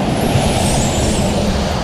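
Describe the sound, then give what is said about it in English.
Steady roar of traffic passing on a road, a broad low rumble of engines and tyres with a big bus among the cars, none of them stopping, with no voices. “The cars are sailing past, like...”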